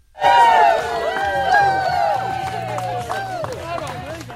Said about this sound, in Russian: Радостные аплодисменты и музыка, которые вы только что услышали, это не что иное, как момент, когда премьер-министр Австралии Энтони Альбанезе и его невеста Джоди Хейден идут к алтарю.